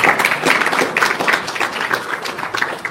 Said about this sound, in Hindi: बढ़िया बात है, तालियां बजाओ सब इसके लिए।